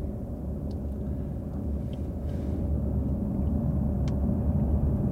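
Steady, loud low rumble of a car on the move, the engine and road noise droning evenly throughout with no voices, much like riding inside the vehicle.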